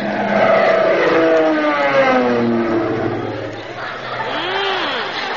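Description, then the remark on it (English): A loud propeller-plane engine roars past low overhead, its droning pitch sliding steadily downward as it passes, then a second, fainter whining sweep rises and falls near the end. “He was a little low, wasn't he?”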